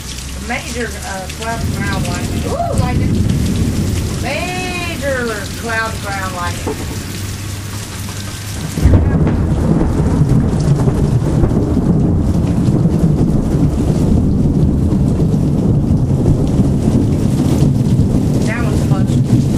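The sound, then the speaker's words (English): Steady rain with faint voices in the first half, then a sudden loud crack and rumble of nearby thunder from major cloud lightning, about four seconds after the flash, over heavy, hissing rain that continues to the end. “Major cloud lightning. That was close.”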